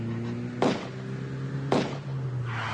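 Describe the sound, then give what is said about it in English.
A car engine drones steadily, its pitch holding level, while two sharp, loud revolver shots aimed at the car's tire crack out about a second apart, and a rushing swell builds at the end. “Here's the car! Here's the car, Temple! They've spotted us.”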